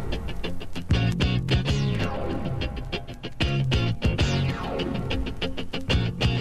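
An upbeat new wave pop song intro plays at steady volume, with punchy drum hits on a driving beat, bright layered instruments and sweeping synth lines, and no singing yet.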